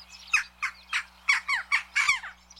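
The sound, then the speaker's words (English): Jackdaw calls: a quick series of about seven harsh, scratchy squawks in an uneven rhythm, fairly loud, with no voices present. “Some cultures saw the jackdaw as a predictor of rain, others as a savior of crops, or possibly an omen of death.”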